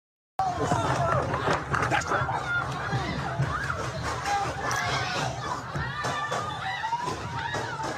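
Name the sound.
gunshots and people screaming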